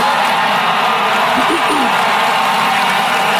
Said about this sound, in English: Again, long sustained applause for that. It goes on and on and on.